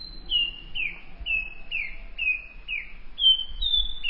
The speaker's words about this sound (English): One analysis used nearly 250 song examples of the nightingale wren, a tropical American bird widely admired for its haunting song.